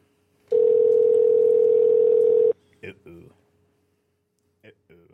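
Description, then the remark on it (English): A single loud, steady ringback tone hums for about two seconds on an outgoing phone call, followed by brief bursts of speech. “Or it's just going to keep ringing forever.”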